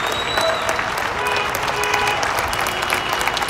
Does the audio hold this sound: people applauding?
yes